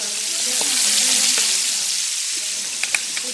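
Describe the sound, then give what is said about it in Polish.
Duck meat sizzles steadily in a hot pan as the pieces are turned over, a dense crackling hiss with a few sharper pops and spits near the end, fairly loud with no voices. “Tryskają jeszcze, więc trzeba uważać, żeby się nie poparzyć. I z tej drugiej strony będziemy smażyć tak naprawdę na chwilę.”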